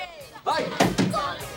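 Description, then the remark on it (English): Two quick, sharp knocks on the glass of a diner window, fairly loud, with a voice murmuring briefly before and after. “knocks on the diner window”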